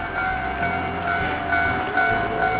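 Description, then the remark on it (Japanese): A train rumbles past on a railway line, a steady roar with sustained metallic whining tones riding over it, holding at a fairly even loudness throughout with no voices. “あ、線路だ。”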